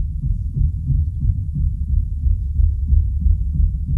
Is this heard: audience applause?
no